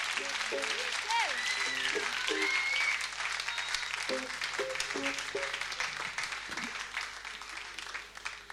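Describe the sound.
An audience applauds with dense, steady clapping that fades slightly toward the end, while a voice and a few sustained musical tones sound underneath, along with scattered whistles.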